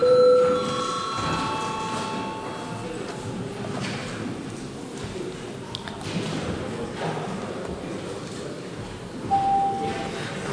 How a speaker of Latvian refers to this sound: Lūdzu zvanu.